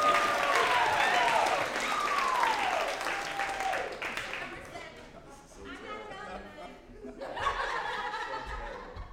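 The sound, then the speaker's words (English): Sustained audience applause as a speaker comes down the stairs onto the stage, dense and steady, with a few high whoops and some laughter early on; the clapping thins briefly midway, then swells again toward the end. “Keep on clapping, he's almost here.”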